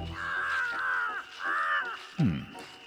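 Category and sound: bird, crow cawing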